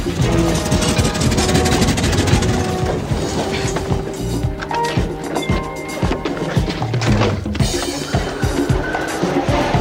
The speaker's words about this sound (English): Exciting car chase ever.